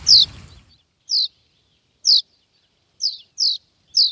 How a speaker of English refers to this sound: Listen, we're running really short of time this week, so we're going to reveal this week's mystery bird, and it is the house martin.